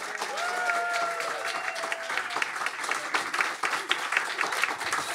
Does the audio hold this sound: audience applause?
yes